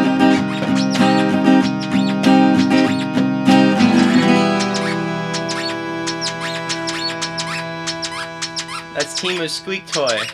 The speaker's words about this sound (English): Squeak toy.